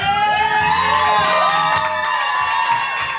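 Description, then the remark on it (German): A loud, continuous roar of a tightly packed crowd cheering on a warm primary election evening in Florida, as loudspeakers announce Lauren Baer has won the Democratic nomination for the 18th district, with many high-pitched shouts and whoops rising and falling over a dense wash of voices, steady throughout without a break. “Der Jubel ist ohrenbetäubend.”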